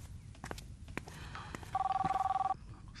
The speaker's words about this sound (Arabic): طيب أنا رح رد على التليفون.